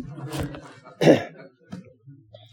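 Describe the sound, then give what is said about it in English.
A harsh throat-clearing rasp leads into one loud, abrupt cough, followed by a few quiet, low vocal murmurs. “Let's pray, and I'll get my coughing throat out of here.”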